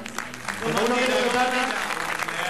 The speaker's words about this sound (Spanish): Bueno, antes de irnos quiero dedicar la actuación de este año, como siempre, a mi madre. Está aquí. ¡Ale! ¡Un aplauso!